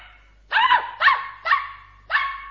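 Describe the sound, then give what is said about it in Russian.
A puppy named Bimbo yaps four times in quick succession while held in a child's arms, sharp high-pitched barks with a brief whiny tail, loud and alone with no talking. “Малыш держал Бимбо на руках, а тот лизал ему щеки, громко тявкал, обнюхивал уши.”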